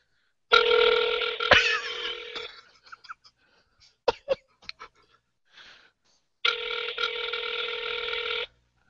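Two long, steady ringback tones on an outgoing telephone call to Mark Emmert, separated by a pause of a few seconds, with faint clicks and a small cough-like noise in between. No one speaks.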